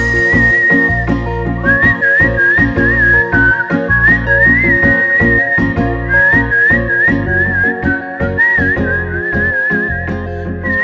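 A person whistles a wavering, continuous melody up front, riding over a loud instrumental backing with steady bass and chords throughout.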